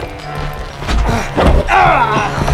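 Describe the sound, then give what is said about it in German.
A thrown chair crashes heavily into someone, a few loud thumping, clattering impacts, with a strained voice crying out amid the commotion. “Wirf die Stuhl nach ihm.”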